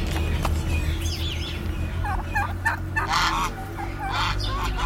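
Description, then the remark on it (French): Geese honk and turkeys gobble together in the backyard of a traditional house, a noisy farmyard chorus with repeated wavering calls overlapping above a steady low rumble of background noise. “Dans l'arrière-cour d'une maison traditionnelle, au milieu des oies, des dindes”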